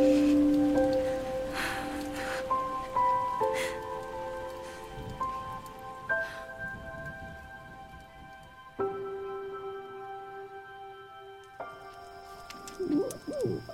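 Steady rain patters on a roof, a dense, even hiss of drops that continues throughout, with a few sustained tonal sounds drifting above it.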